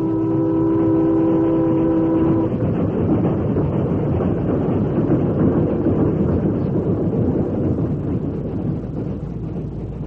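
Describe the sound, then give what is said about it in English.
A train rushes by through a railway cut in a loud, continuous rumbling roar, its horn blaring a steady chord for the first two seconds before only the heavy clatter remains. “Well, Dan, you saw the train pass as you wanted to, but you went through a lot before you did.”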